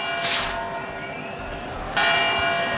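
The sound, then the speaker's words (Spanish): Church bells of the church of San Fermín in Pamplona, Spain, ring out at 8 in the morning with two loud, resonant strikes, each one humming and decaying slowly into a rich, lingering tone, with no voices present. “Suenan las campanas de la iglesia de San Fermín que nos anuncia que son las 8 de la mañana”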